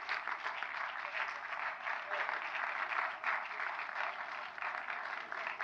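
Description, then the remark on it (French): Sustained, dense applause from a large audience for M. Godard, whose film is Prénom Carmen, a steady wash of many hands clapping at full intensity for the whole stretch, with no pauses and no voices standing out. “Alors là, c'est les gros applaudissements là, pour M.”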